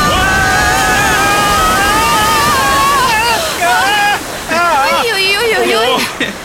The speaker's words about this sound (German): Vorsicht, Leute! Jetzt wird's kurz etwas wilder. Festhalten! Ich seh's! Stromschnelle voraus,